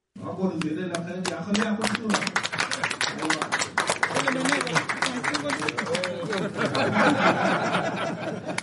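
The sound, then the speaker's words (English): Representatives of the Dinka Bor and Murle communities clap steadily and energetically at a signing ceremony in Juba after their leaders sign a cessation of hostilities agreement and shake hands, with overlapping voices cheering, laughing and calling out, the applause swelling louder toward the end. “Representatives from Dinka Bor and Murle communities club and cheer after their leaders sign a cessation of hostility agreement and shake hands.”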